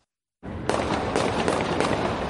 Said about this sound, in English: You could hear the gunfire erupt in downtown Louisville.